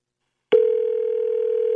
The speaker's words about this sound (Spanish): Ya está sonando el teléfono.